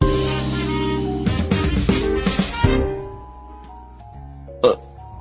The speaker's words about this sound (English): Oh, excuse me. Why? I just burped.